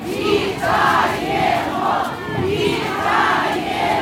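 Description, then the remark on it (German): A large crowd shouts welcoming calls and cheers to freed men waving from the windows of arriving buses, many voices blending into a loud, continuous roar with rhythmic surges of chanting-like calls. “Die Menschen antworten mit Willkommensrufen.”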